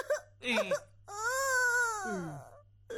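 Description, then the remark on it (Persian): A person lets out a long, drawn-out wail that rises and then slowly falls, preceded by a couple of short sobbing cries, close and fairly loud with a steady low hum underneath. “چرا گریه کنی؟ چرا گریه کنی؟ گپ چی هست؟”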